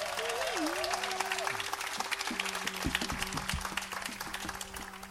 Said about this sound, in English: A group from Gainesville that we're very proud of. I live in Gainesville myself, and everybody is proud of the …. Would you give them a very nice applause? Thank you.